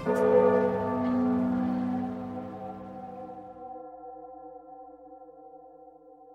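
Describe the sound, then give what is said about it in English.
The heart bell of a ship at Nordia strikes once with a deep, resonant clang, its rich overtones ringing out loudly and then fading slowly over several seconds with no voices present. “And it breaks out over the ship, and that thundering call sounds across Nordia as the heart bell rings again.”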